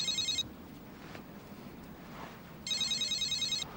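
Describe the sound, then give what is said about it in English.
A call rings out on a mobile phone after dialing, two bursts of shrill, warbling trills separated by a pause, clear over a low background hum. “It's ringing.”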